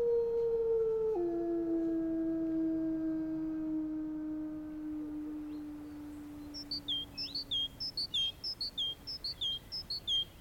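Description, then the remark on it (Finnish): Wolves howl in one long, sustained, mournful note that steps down in pitch early and then slowly sinks as it fades, followed by a burst of quick, high bird chirps. “susien ulvontahan ei todennäköisesti yleensä ole sitä, että ne olisivat surullisia, vaan he kommunikoivat omia juttujaan sillä lailla.”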